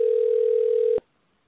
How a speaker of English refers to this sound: You know what? Can we, we'll take a short break while the phone rings and we'll be back right after this.